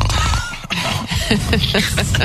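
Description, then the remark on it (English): A father fakes a loud snore as his kids come to wake him, a rough, throaty rattle that sputters along for about two seconds with no other talking. “Oh, you hit the snore? You pretend to snore?”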